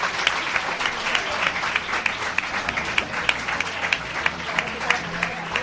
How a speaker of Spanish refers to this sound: Un aplauso